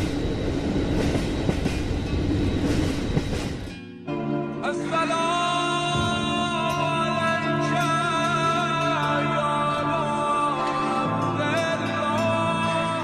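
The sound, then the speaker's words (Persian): A train travelling toward Najaf rolls steadily along the rails with a continuous rumble; a few seconds in, a sustained harmonic hum joins the rolling noise and carries on to the end. “قطار همچنان در حال حرکت است.”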